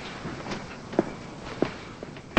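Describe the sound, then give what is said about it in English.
A few soft, evenly spaced footsteps cross, then a door is shut with a sudden loud thud right at the end. “Yeah, shut the door.”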